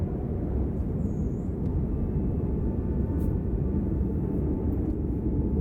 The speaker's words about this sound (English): Wind's picking up a bit, though.